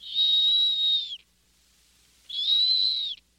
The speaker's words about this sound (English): If it sounds like a kettle whistling, it's a snowy owl.